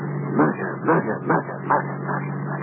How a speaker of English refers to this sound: He motored to the country. And the hum of the car is a single word throbbing in my brain.